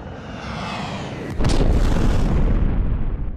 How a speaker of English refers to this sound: Then, a plane flew right into her office in the South Tower.